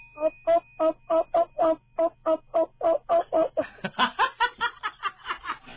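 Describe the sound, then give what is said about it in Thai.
A voice imitates a frog croaking with a fast, steady run of short voiced 'op' pulses, about three per second. They turn higher, rougher and more laughter-like toward the end. “อุ้ยไม่อยากได้ฟังแบบนี้ครับอยากฟังแบบกบชมนะครับแบบอ๊อบอ๊อบอ๊อบอ๊อบอ๊อบเอฟอะไรอย่างเงี้ยครับพร้อมยังหนึ่งสองสามแอคชั่น”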